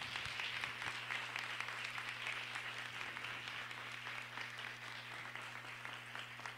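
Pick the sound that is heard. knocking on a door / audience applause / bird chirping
audience applause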